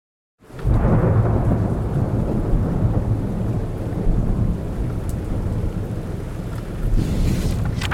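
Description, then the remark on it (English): A thunderstorm roars in after a brief silence as the rainy season begins, heavy rain pouring steadily while deep thunder rumbles loudly and continuously underneath, with no voices. “The rainy season has begun.”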